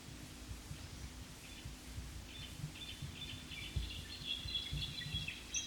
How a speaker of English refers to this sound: The previous bird is assumed to have been a female, possibly the mate of number three.